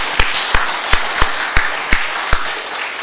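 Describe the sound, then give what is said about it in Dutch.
Sharp, evenly spaced handclaps, about seven in a steady rhythm, applaud a grand piano performance of Handel's The Harmonious Blacksmith, over a constant bed of loud hissing noise, with no talking. “Ja, laten we dan maar klappen.”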